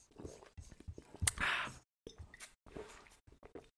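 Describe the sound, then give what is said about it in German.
A quiet sip of cold, clear fizzy mineral water: a sharp click, a short hissing slurp and a faint swallow, followed by soft wet mouth noises and small clinks. “Ich trinke noch mal kurz einen Schluck von meinem klaren Mineralwasser.”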